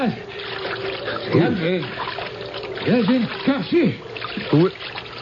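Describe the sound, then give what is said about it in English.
Steady sloshing and splashing water as someone swims toward the listeners, with short vocal sounds breaking in over the watery wash every second or so. “There was someone in the water swimming towards us.”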